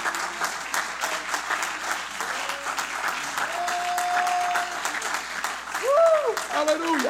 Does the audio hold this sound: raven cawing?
no